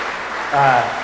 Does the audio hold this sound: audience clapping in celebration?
yes